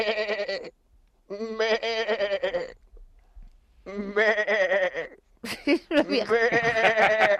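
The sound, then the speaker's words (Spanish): A person imitates the frightened bleating of a sheep afraid of a wolf in three drawn-out, quavering cries separated by short pauses, loud, ending in a shakier, breathier burst. “Oveja doliente. Una oveja que está temerosa de nuestro lobo.”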